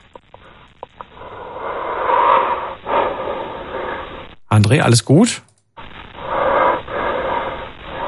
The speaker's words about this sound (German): ich höre dich nur noch atmen.